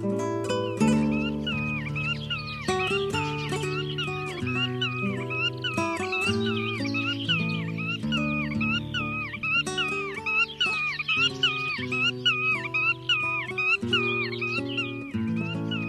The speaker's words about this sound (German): Das war die Uferschnepfe.